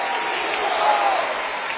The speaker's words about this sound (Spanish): Den un aplauso fuerte, Señor.